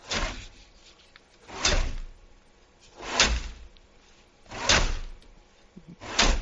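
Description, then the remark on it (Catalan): Saws rasp through ice in slow, steady strokes, five long grinding pulls evenly spaced about a second and a half apart, fairly loud, with no voices; a cinematic sound effect opening the first song of a film soundtrack. “Això és la primera cançó de la banda sonora de Frozen. Ah, que sí, això anava a dir, són els que serren el gel.”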